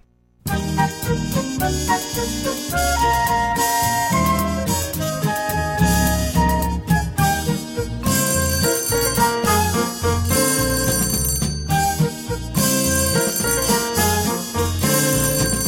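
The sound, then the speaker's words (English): A bright, bouncy radio jingle for a call-in phone number plays loudly and steadily for about fifteen seconds, full of chiming, bell-like melodic notes over a punchy rhythm, with no voices. “So when they started to make this a bit of a regular feature, instead of just giving out the phone number, the easiest way for somebody to remember a phone number is by a jingle.”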